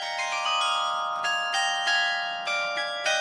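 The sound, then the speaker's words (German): The glockenspiel on the market square in Siegburg, which chimes hourly in memory of the composer Engelbert Humperdinck, plays a slow melody, about seven bright metallic bell notes struck one after another, each ringing on and blending into the next, with no voices. “Ein Glockenspiel am Markt erinnert heute stündlich an den großen Sohn.”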